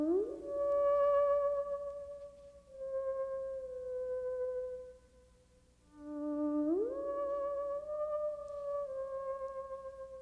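An eerie orchestral theme from the 1958 television show One Step Beyond: a wavering, howl-like lead tone swoops upward into long sustained notes over a low, steady drone, with two rising glides and no voices.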